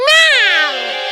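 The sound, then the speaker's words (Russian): A single loud, drawn-out cat yowl, rising then falling in a harsh, strained tone, with no other sounds around it. “Но какой же кошке это понравится?”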